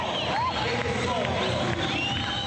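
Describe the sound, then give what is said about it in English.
A dense, lively crowd of young Iranians at an election rally opened by conservative candidate Mohammad Khalibaf claps and whistles in their seats to dance music, rising, sliding whistles over a steady roar of voices and applause with no single speaker standing out. “One of the conservative candidates in tomorrow's election, Mohammad Khalibaf, opened a rally this week with dance music that set a crowd of young Iranians clapping and whistling in their seats.”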